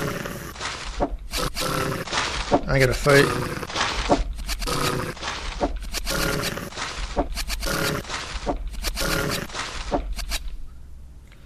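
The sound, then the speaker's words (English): Video game wolf growls and snarls come in a rapid series of loud bursts during a battle encounter in Misty Area 2, with a voice speaking briefly over the battle noise. “Wolf! The battle begins.”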